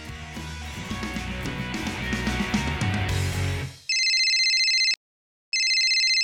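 A busy musical passage ends, then a telephone rings loudly: two bright electronic bursts separated by a brief silent pause, with no one talking.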